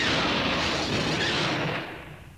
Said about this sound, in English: Luke and Leia had started back up the corridor when a series of blinding explosions ripped the walkway ahead of them.